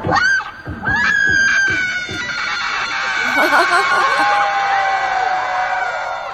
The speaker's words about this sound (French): Et les applaudissements derrière, il faut imaginer tout le public de la Fashion Week ravi d'entendre les premiers pas en tant que rappeuse de …, 6 ans, la fille de Kim Kardashian et Kanye West.